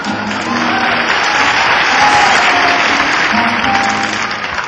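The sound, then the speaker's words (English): A crowd claps steadily and loudly throughout, a dense wash of hand claps with low thudding of stamping feet underneath. “Somebody has stamped your feet and clapped your hands.”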